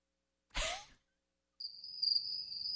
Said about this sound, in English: I hear the crickets. I don't need headphones to hear that.